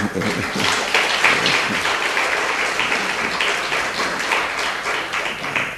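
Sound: audience applause welcoming guests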